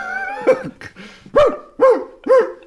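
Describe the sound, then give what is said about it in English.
A dog barks loudly, four sharp barks spaced roughly half a second apart, with some whining, yelping sounds at the start and no talking. “If there was a dog barking and you were waiting for somebody to sing.”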